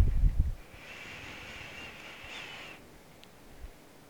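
A slow, deep breath drawn in through the nose or mouth, a soft steady hiss lasting about two seconds before fading, with no talking and a brief low thump at the start, taken during a guided calming breathing exercise.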